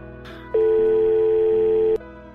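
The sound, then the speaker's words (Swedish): A single long electronic ringback tone, a steady mid-pitched beep lasting over a second, plays clearly over a faint background hum as an outgoing phone call rings. “Ja, nu ringer jag igen, ja.”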